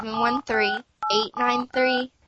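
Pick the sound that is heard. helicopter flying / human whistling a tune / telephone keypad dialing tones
telephone keypad dialing tones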